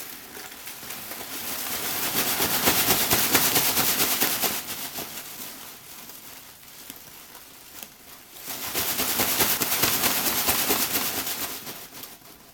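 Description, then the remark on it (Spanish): Small sheets of paper rustled and crinkled steadily to imitate rain, playing with the difference between soft and loud: a dense crackling patter that swells louder, eases off in the middle, then builds up again before fading, with no voices. “Voy a volver a jugar acá con mis hojitas.”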